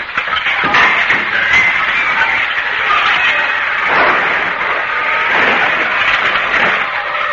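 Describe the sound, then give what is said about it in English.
A kick lands on an old car, which falls to pieces: a long, loud stretch of clattering and crashing metal that keeps up steadily for several seconds, with a few sharper bangs scattered throughout. No voices. “Begging your pardon, and with all due respect, but if you were to give that car a good kick like so...”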